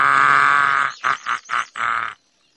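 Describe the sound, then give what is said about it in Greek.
A voice imitates a crow cawing as it tries to sing: one long, harsh, raspy caw followed by four shorter ones in quick succession, loud and alone. “Αμάν, με ξεκούφωνες βρε κόρακα. Πιο μαλακά.”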